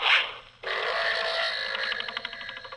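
An archery sound effect: a brief rushing whoosh, then an abrupt impact that rings into a sustained, buzzing twang, wavering in rapid pulses as it fades out.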